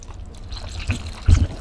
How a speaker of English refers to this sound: This is a wet chamois, a wet deer skin.